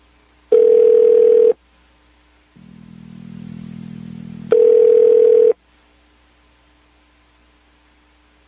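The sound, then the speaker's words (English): A telephone ringback tone from a call to the Kenyan embassy in Washington, D.C., sounds in steady one-second bursts separated by pauses, with a low buzzing hum filling one gap, loud and clear over a line with no one talking. “Let's hear the ringing on air, and then I'll talk to him.”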